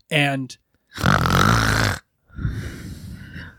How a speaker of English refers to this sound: You can hear …, little snores in the other room. You don't want to disturb …, even though the snoring has gotten louder.